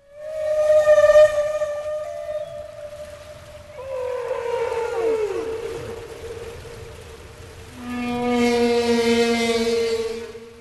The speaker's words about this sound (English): Or at sea here from the same exhibit, the humpback whale.